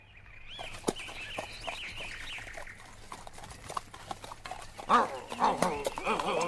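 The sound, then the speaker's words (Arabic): A few weak, yelping dog barks, feeble and high-pitched, from a dog sitting behind a tree in a forest, come near the end over a steady clip-clop of hooves and some chirping in the background. “توقف أيها الحمار، إنه صوت نباح كلب ضعيف.”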